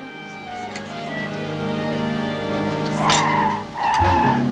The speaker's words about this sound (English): The guests turn when they hear a car. It's Egg driving Poirot and Hastings. She bumps to a halt.